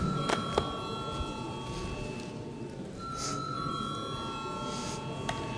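A parliament session bell rings steadily for several seconds before a vote on a bill amending the criminal law, a sustained, even-pitched metallic tone with faint clicks, heard over a low murmur of background noise.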